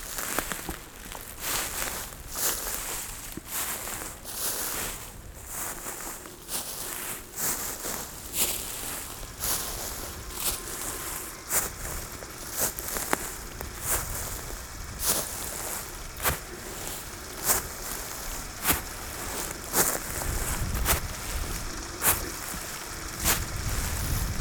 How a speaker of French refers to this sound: Les herbes sèches, elles crépitent à vos oreilles.